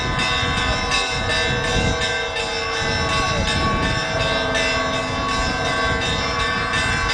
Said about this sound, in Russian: Когда все верующие причастились святых христовых тайн, священнослужители и прихожане вышли на улицу, и громкий колокольный звон возвестил о начале крестного хода к монастырскому храму в честь иконы Божьей Матери «Живоносный источник».